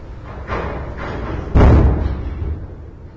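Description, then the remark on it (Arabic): A house door slams shut with a single heavy, booming thud partway through, following a softer knock-like bump moments earlier, set against a dull background rumble. “يا باب الباب مال هذا مال البيت بيت؟”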